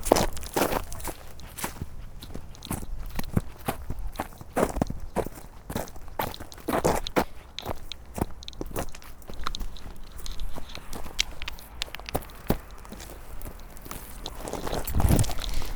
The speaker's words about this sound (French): Les bruits des pas. On va faire le bruit quand on marche sur le chemin. Donc on va bien marcher sur les feuilles pour que ça craque.